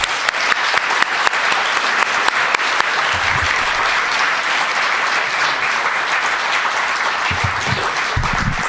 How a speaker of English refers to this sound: I didn't say to stop clapping.